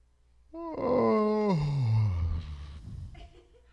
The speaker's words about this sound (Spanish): Vamos a hacer un bostezo aquí los tres, ¿ok? Al mismo tiempo, ¿eh? Fíjense bien. Quiero que, no se concentren en otra cosa más que nosotros tres a la hora de bostezar. Una, dos, tres.